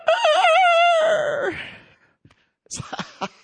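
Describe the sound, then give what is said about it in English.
A rooster crows once, loud, a long wavering call that drops in pitch as it fades, followed after a short pause by a few brief scuffling noises. “And the rooster crowed.”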